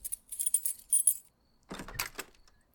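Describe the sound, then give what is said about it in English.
Keys jangle in two bursts: a bright metallic rattle, a short pause, then a fuller clinking shake, moderately loud with no talking. “Hey, don't forget your keys.”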